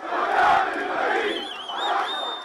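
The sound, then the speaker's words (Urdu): An angry crowd of thousands of Palestinian mourners at the funeral of 16-year-old Mohammed Abu Khdeir in East Jerusalem chants slogans in loud, rhythmic unison, a dense roar of many voices rising and falling in two swells, with a few high shouts and whistles cutting above. “مشرقی یروشلم میں 16 برس کے فلسطینی لڑکے محمد ابو خزیر کے جنازے کے شرکا مشتعل ہیں اور نعرے لگا کے اپنے غم و غصے کا اظہار کر رہے ہیں.”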